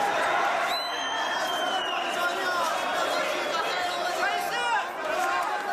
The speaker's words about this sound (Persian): تعداد کثیری از افغان‌ها هم از زن و مرد به استقبال بازیکنان تیم ملی به میدان هوایی مشهد آمده و با طرفداری و تشویق بازیکنان تیم ملی افغانستان نعره می‌کشیدند.